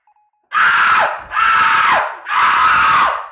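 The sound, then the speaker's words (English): A man on an amusement ride lets out three long, loud screams back to back, each a harsh, strained howl that sags downward in pitch at the end before the next begins. Very intense, with no talking. “That was so loud. 3 minutes you of screaming.”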